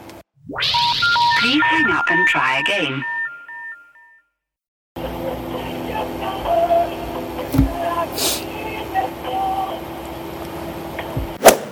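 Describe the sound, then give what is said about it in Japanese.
A short, tinny electronic telephone hold-music melody of stepped beeping tones plays for a few seconds while a caller is on hold, then cuts off, followed by a pause and then a steady, noisy background with faint voices. “一旦保留いたします。お電話切らずにお待ちいただけますか？”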